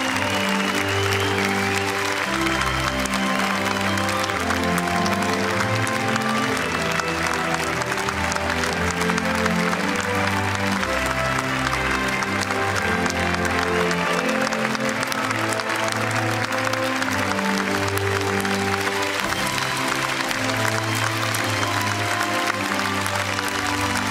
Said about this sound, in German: Greta Thunberg betritt die Bühne, Stromberg bricht in Jubel aus, Kai Pflaume mit Standing Ovations.